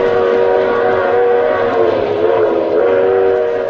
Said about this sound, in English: But first, I want you to be my guest on a little train ride. We're running at 60 miles an hour on open track in the dead of night. Now we thunder through a sleeping village.